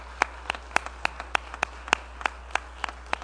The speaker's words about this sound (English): Just another round of applause, I think, for Rob.